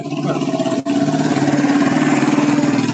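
A motorcycle engine runs loud with a steady, buzzing rumble, broken only by a very brief cut near the start. No one speaks.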